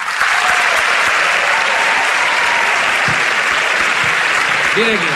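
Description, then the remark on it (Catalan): A crowd breaks into sustained, loud applause for a musician, a dense wash of clapping that holds steady for several seconds, with a few voices calling out beneath it. “Mira, primer, un aplaudiment pel ….”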